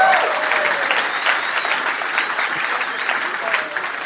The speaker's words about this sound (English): Somebody could clap. I'm pretty excited. I'm just going to clap.